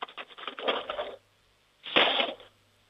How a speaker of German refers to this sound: Jetzt bin ich mal gespannt, wie das klingt, wenn du die Bestecklade aufmachst und einen Haufen Löffeln rausnimmst und sie in die Bestecklade reinfallen lässt. Lärm ist doch immer gut, oder?